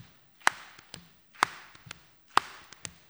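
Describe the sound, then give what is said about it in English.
A rhythmic body-percussion pattern repeats three times: a sharp hand clap, then one hand slides off into softer, duller slaps on one leg and then the other, steady with no voices. “You just clap your hands, let one hand slide off and slap your leg and slap the other leg.”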